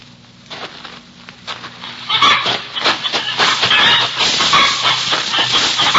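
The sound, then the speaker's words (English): A plump hen squawks frantically amid scuffling and flapping as someone tries to catch her, starting with scattered sounds before erupting into loud, continuous, rapid squawks that fill the rest of the moment. “Not only for the chicken, but she is such a plump one.”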